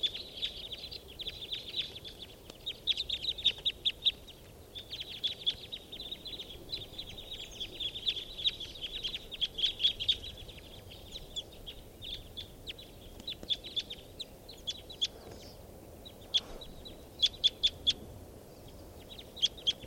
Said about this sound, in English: Recording that flock consists of type 2s, 4s, 5s, and white wings, all interacting together. Yep. Here's a type 2 female right here. With a young male. Yep. This is the calls of the flock. They're all taking off now.